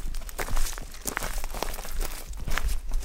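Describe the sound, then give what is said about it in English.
Footsteps crunch through dry leafless twigs and brittle debris in the dirt, walking through early-spring woods toward the Westport River under bare branches, an uneven series of crackling steps with snapping and crinkling textures and no talking. “We make our way to the Westport River, ducking under bare branches and crunching through leafless twigs in the dirt.”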